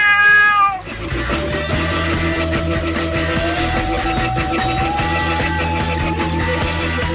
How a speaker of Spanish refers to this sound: Soy astuto y juguetón, y cazar un ratón es mi mayor afición. El gato.